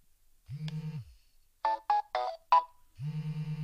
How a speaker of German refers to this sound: Okay, da war jetzt eine Vibration und ein Tusch und jetzt vibriert er immer noch. Ja, das ist der Hinderniswarner.